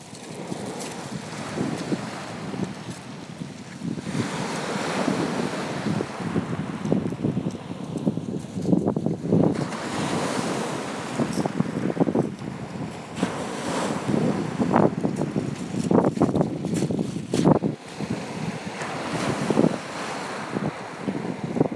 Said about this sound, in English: So we're at Winchelsea, or maybe Pet Level. And the tide is coming in.